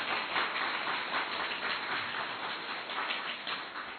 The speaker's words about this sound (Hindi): दीदी जी का स्वागत थोड़ा जोर की तालियों के साथ करें।